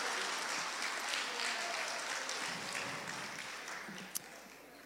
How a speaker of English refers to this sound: So let's give a hand clap to Jesus for what he is doing.